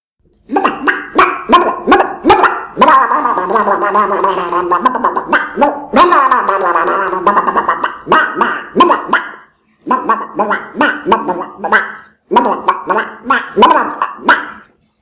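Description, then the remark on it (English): A voice imitates the cartoon duck Donald Duck with raspy, gargling, squawky babble, delivered loud in choppy bursts with brief pauses over about fifteen seconds. “I can do Donald Duck if you like.”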